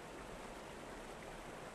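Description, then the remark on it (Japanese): A gently flowing river of clear, clean water babbles steadily, a soft continuous wash with no pauses and no voices, fairly quiet and even throughout. “ここは彼岸。彼岸のこちら側。私と君を隔てる最後の川。”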